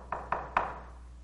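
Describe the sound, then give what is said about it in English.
Three quick, fairly loud knocks on a door, the last one the firmest, each with a short hollow ring, followed by quiet. No one speaks. “What if tomorrow somebody came up and knocked on your door?”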